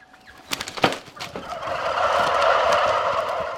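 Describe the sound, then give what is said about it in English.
A flock of turkeys gobbles on Noel Thompson's turkey farm in central Iowa, USA. A few sharp, scattered calls come first, then many birds join into a dense, continuous, fairly loud chorus of gobbling with no talking. “To visit Noel Thompson's Turkeys in central Iowa, I have to put on a pair of huge paper coveralls, add a hairnet, and disinfect my boots.”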